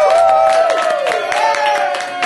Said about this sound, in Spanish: Corillo, yo acabo de celebrar ahora mismo mi cumpleaños en Celebrate Puerto Rico en un episodio de Dulce Compañía. ¡Fuerte aplauso!